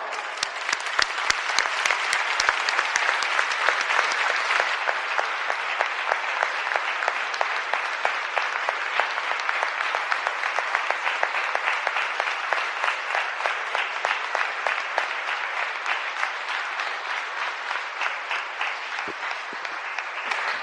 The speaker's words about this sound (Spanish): Esto que oyen son los aplausos y las expresiones de cariño a Nuestra Señora de las Angustias al término de la Eucaristía que en su honor se celebraba en el día de su festividad el día 15 con nuestro arzobispo don Javier.